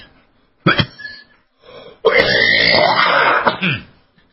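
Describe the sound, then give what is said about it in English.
A person coughs: a short harsh burst, a brief pause, then a long, strained, raspy cough that trails off, with no talking. “I guess talking about all the coughing made me cough.”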